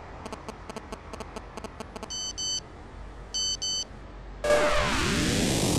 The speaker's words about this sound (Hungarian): Megjött BMZ SMS-e.